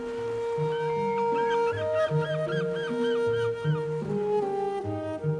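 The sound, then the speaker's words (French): A crowd of black-legged kittiwakes calls nonstop at a nesting colony in Brittany, France, about ten meters away, harsh nasal cries overlapping with repeated rising-falling yelps, forming a loud, dense din throughout. “À une dizaine de mètres des mouettes. Et là, on voit les couples.”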